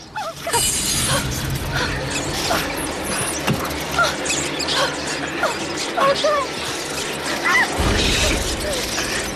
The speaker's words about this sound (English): Amy has a number of the creatures on her back, and they set off again, David grimacing as he powers through the scurrying rats. They make it past the rats.